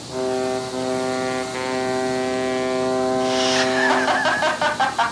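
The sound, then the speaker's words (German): A boat mechanically transforming into a submarine as its superstructure folds in, rudders extend from the sides and a long tube rises in the middle: a steady, buzzing motor drone builds, then a hissing burst gives way to a quick series of rhythmic mechanical clanks and whirs, loud. “Und die Aufbauten klappen sich ein und an den Seiten treten Ruder hervor und ein langes Rohr in der Mitte wird hochgefahren.”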